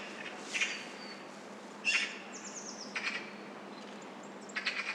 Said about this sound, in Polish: Nie jest to wprawdzie głos tak dobrze znany jak innych krukowatych, gawrona czy kawki, ale wydaje mi się, że dużo osób powiedziałoby, to jest sroka. To ptak z czarną głową, dziobem, tyłem ciała i ogonem. Reszta ciała jest biała.